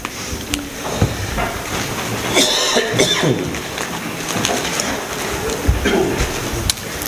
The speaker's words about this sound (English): It would be by the providence of God that the cough that I usually get twice a day would come at 11.